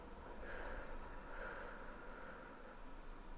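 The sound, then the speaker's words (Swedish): A long, slow exhale of breath during a breathing exercise, soft and airy, held steady for a few seconds with no talking around it. “Vi kan andas in tillsammans i 3 sekunder och andas ut i 3 sekunder.”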